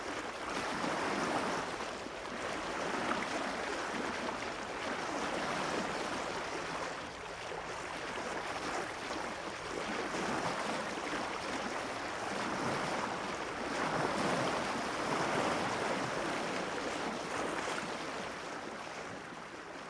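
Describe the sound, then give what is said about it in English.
Steady open-sea ambience of the North Atlantic Ocean with waves surging and washing continuously, a broad rushing hiss that swells and ebbs, with some wind noise; no voices. “My third encouragement to you is that you give your mind permission to wander and journey with me into the North Atlantic Ocean, where the humpback whale resides.”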